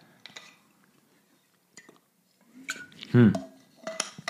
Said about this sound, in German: Als erstes nehmen wir jetzt mal einen Schluck Wasser.